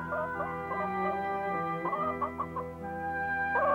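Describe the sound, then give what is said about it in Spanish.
Hens cluck in short, choppy bursts, several overlapping calls, set against a steady sustained tonal hum that runs underneath throughout. “¡Es mejor que lo hagan si no quieren ser gallinas fritas!”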